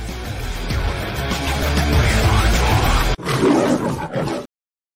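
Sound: tiger roar sound effect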